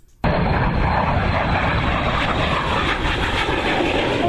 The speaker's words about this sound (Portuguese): Do avião caça, do imponente C-130 Hércules e dos helicópteros H-36. É facilmente percebido no horizonte de Campo Grande, a capital de Mato Grosso do Sul.